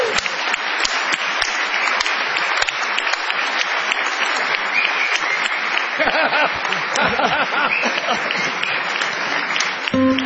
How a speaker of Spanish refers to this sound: Ahí viene Barton, ¿eh? Vamos a aplaudirlo. ¡Bravo, Barton!